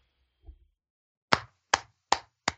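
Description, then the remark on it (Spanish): Four sharp hand claps in a slow, steady rhythm, a lone person applauding a match, preceded by a faint soft thump, with no voices. “Este fue un aplauso caluroso para este combate.”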